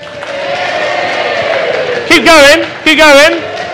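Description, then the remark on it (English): An audience cheers people on as they do a ball-clapping task, over a steady wash of crowd noise, then two loud, wavering whoops burst out one after the other near the end. “I asked you to cheer people clapping a ball, and you cheered them”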